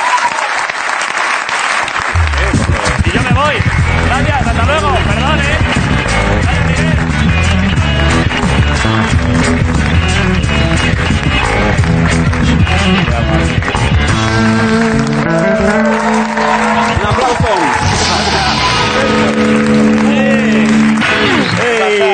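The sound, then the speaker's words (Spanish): Loud, sustained audience applause with cheering for Miguel Noguera on La Resistencia fills the whole stretch, a dense wash of clapping that barely dips, while music with steady tones plays underneath it. “Vale, pues antes de nada, un aplauso para Miguel Noguera, la Resistencia.”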